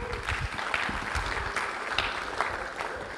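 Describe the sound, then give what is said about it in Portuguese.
A crowd applauds steadily for a few seconds, a dense, continuous patter of many hands clapping at moderate loudness, with no one speaking over it. “Pode aplaudir aí, gente.”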